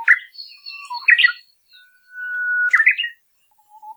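bird, bird song

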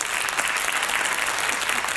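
crowd, audience clapping

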